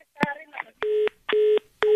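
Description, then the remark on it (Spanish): Phone keypad tones as someone's cell phone number is dialed: three evenly spaced, steady electronic beeps, each lasting about a quarter second, clear, after a brief burst of voice and handling noise. “Bueno, ahorita le marco a su celular.”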